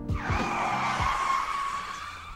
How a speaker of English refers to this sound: You know, hit the brakes.